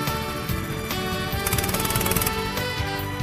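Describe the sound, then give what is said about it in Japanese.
A small go-kart engine runs steadily, giving a loud, rapid, rattling putter with a buzzing tone that holds throughout, with no voices over it. “げー、 俺のエンジン動いてる。”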